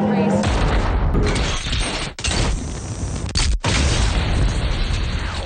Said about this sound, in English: And 13 seconds later, another explosion.